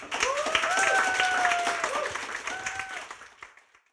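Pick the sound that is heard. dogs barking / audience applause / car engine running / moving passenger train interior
audience applause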